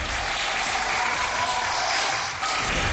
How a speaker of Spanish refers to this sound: Son los médicos de las unidades de cuidados intensivos los que ayudan a los pacientes más graves. Han recibido hoy este aplauso de sus compañeros de batalla, el resto de médicos y enfermeras.